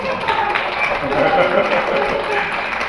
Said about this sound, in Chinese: 你们鼓掌不热情，台长讲不动了。